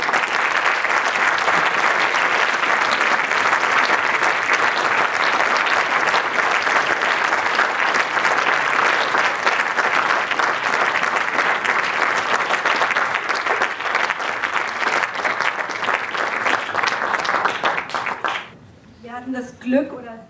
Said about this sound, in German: Und deswegen bitte ein ganz besonderer Applaus